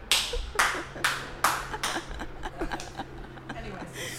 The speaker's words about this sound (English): Sorry, I just had to clap for that one.